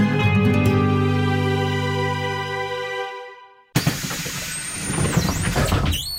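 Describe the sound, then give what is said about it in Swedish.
City bus air brakes let out a loud hiss with a thin, wavering squeal on top, following a sustained droning tone that fades into a brief silence. No one speaks. “Ja, välkommen längst bak i bussen. Linje 172 står idag.”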